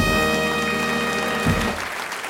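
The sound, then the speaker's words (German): A loud drum roll and fanfare flourish (Tusch) played in by the broadcast's production team: a drum roll under a sustained, bright brass-like chord builds for about a second and a half, then a final hit lands and the sound rings out, fading in the tail. “Ihr hört, die Regie hat heute richtig Lust auf Trommelwirbel und Tusch.”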